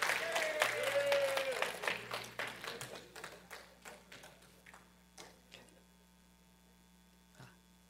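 A church audience applauds warmly to welcome the first of five people giving testimonies, with dense clapping that thins out over several seconds into scattered individual claps, a steady low electrical hum running underneath throughout.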